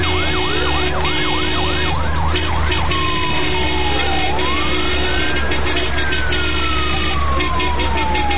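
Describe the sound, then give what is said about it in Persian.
A loud traffic police car siren, starting with a rapid yelp and shifting into long rising and falling wails, over a steady rumble of road traffic on a road jammed with cars. “برو، بیازو موتر ترافیکی ما شناخته میشه، کسی چیزی گفته نمیتونه.”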